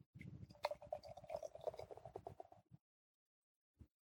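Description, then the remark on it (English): A 1-2 Punch Peach and Mango Hazy IPA beer from Crooked Lane of Auburn, California pours frothily into a glass, a steady gurgling fizz lasting a couple of seconds, then a pause and one short soft knock. No one speaks. “Frothy pour.”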